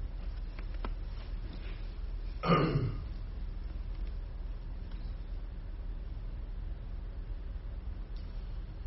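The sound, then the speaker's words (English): A single short, rough throat-clearing cough close to the mic, rising briefly out of a steady low rumble of background noise, with no talking around it. “I am kind of struggling with this cold cough, whatever you may, but this, I think it's sinus infection.”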